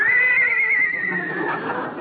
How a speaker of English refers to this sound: Will the owners of these pets please claim them? We have a dog. A horse.